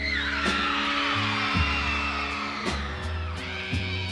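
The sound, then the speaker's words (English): A live concert crowd screams loudly and continuously, a dense wall of shrieking voices over a band playing bass notes and sharp drum hits underneath. “That audience is just screaming their lungs out because this guy knows how to deliver a show.”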